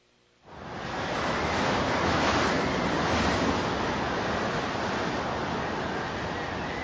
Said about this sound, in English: As the father settled into their long wait at the breeding ground, the winter's second storm arrives. The temperature is now 80 degrees below zero. That's without taking into account the wind, which can blow 100 miles an hour.